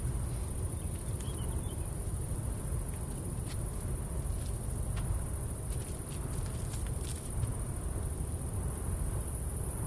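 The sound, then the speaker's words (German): A wind turbine's steady, low rumbling drone holds at an even level throughout, with a thin, constant high whine above it and a few faint clicks. No voices. “Das ist kein Mähdrescher, das ist ein Windrad.”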